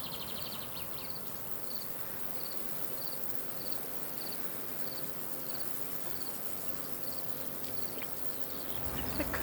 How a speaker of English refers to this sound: Crickets.